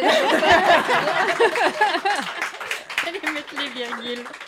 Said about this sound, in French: Merci d'avoir applaudi. Merci, merci beaucoup.